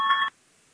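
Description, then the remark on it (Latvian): A single short electronic bell signal in a parliament calling members to vote, a bright tonal chime lasting about a third of a second, clear, then cutting off into near silence. “Lūdzu, zvanu balsosim par 86. Deputātas Papules priekšlikumu.”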